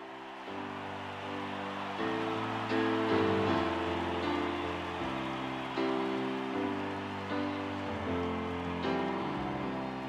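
A recorded pop song opening with steady piano chords that shift every couple of seconds over a soft hiss, played at an even moderate loudness with no vocals yet.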